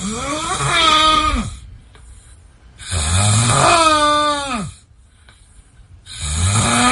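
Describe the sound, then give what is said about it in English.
A man snores loudly, three long, droning snores with a groaning, almost vocal pitch that rises and falls, separated by short quiet breaths. “I love him still, but I can't see anyone else's snoring being worse than his.”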